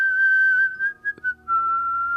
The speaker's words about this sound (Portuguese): Nesse mesmo instante, ouvimos um assobio alto, como se alguém estivesse assobiando para chamar nossa atenção.